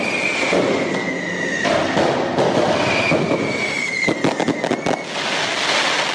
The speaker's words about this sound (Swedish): Det där vi hörde, det var ju fyrverkerier. Men det var väl inte för att fira PSGs ankomst till Barcelona direkt. Nej, det var ju supportrarna som ville störa PSG vid hotellet i natt.